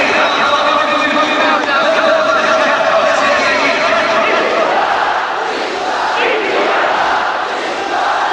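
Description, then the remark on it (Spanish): A large French crowd at a football match roars and shouts victory in unison, a loud, sustained wall of cheering voices that stays steady throughout, swelling slightly before easing a little near the end. “El público francés grita victoria.”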